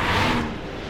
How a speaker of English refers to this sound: If you stand on a bridge above the Monroe Expressway, you can hear the roar of the occasional car or 18-wheeler rushing beneath you.